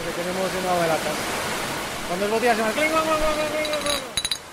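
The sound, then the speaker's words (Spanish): Steady, loud industrial roar fills a brewery's beer canning and bottling hall, where robots fill about 40,000 cans or 60,000 bottles an hour, with voices talking over it and a burst of sharp metallic clinks near the end. “En esta sala son capaces de envasar unas 40.000 latas o unas 60.000 botellas por hora.”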